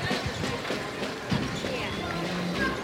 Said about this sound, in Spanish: Zapatillas chirriando, el roce con el mármol.